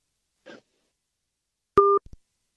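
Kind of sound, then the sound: signal or alarm, phone call cut off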